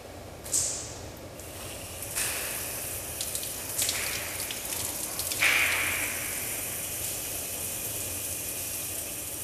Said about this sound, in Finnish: Olen uimahallin suihkussa.